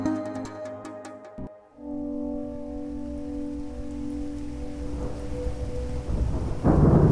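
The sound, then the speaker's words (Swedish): Steady rain hisses while deep thunder rumbles in rain-heavy air over the small town of Lakehurst in the eastern USA, with a low droning tone underneath. A few brief chiming notes ring at the start, and the storm swells louder toward the end. “Skriken skär genom den regntunga luften i den lilla orten Lakehurst i östra USA.”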